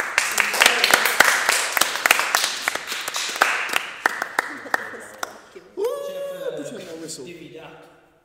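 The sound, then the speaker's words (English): A crowd claps in a quick, uneven patter of sharp slaps for several seconds. The clapping then fades as voices and laughter take over. “Clap.”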